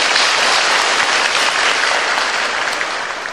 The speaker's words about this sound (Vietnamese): Xin cho một tràng pháo tay khen các bạn nào.